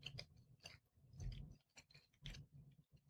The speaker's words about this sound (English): So, just chewing. Still chewing, huh?